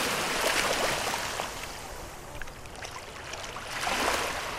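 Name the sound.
sea water and waves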